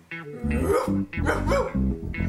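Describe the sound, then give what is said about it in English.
A dog named Face barks and yowls in the CKUT radio studio in a quick series of loud, drawn-out, tonal calls with no one talking over it. “I have the immense pleasure of being in studio today with one of CKUT's most adoring Ferd fans, Face the Dog.”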